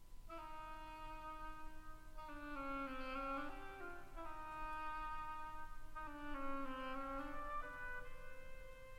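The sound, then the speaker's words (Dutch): An oboe plays a slow, reedy melody representing a duck in a story, its nasal tone holding long notes that bend and waver. It is steady and fairly loud, with no voices. “De eend door een hobo.”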